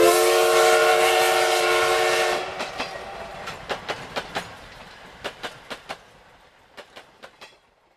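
A loud, sustained train horn blares for a couple of seconds, then gives way to the steady clickety-clack of wheels over rail joints, sharp clicks arriving in quick pairs and triplets.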